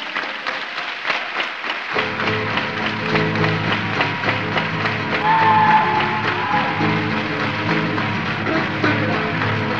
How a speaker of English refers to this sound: Hey, let me hear you clap your hands.